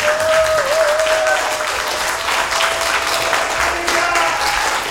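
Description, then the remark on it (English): Steady audience applause, a dense wash of many hands clapping at a constant loud level for several seconds, with a faint sustained tone running underneath. It is a round of applause at a party for everybody who submitted an entry. “I think everybody who submitted an entry, no matter how it places, just deserves a quick round of applause, because entries are what make your party.”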